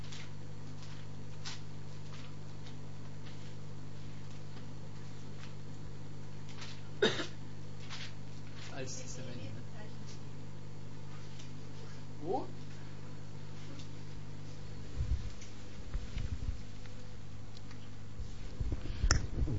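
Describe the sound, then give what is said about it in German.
Pages of a book are turned in a few quick, scattered papery rustles over a steady low hum, with a denser flurry of flipping near the end, as the pages are leafed through live to find 2 Kings chapter 2. “Ich weiß auch nicht warum, normalerweise mache ich das ja eigentlich so, dass ich mir Zettel reinlege, aber heute dachte ich, irgendwie wäre es vielleicht cool, wenn ich mal live blättern würde.”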